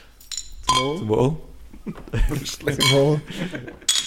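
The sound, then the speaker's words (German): Glasses clink together in a toast, a few bright ringing taps, with voices chatting around them. “Oder wollen wir zuerst anstoßen?”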